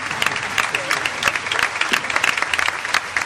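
A crowd claps steadily for a few seconds, applauding two elderly men who are present, a dense, continuous patter of many hands with a bright, crackling texture and no pauses.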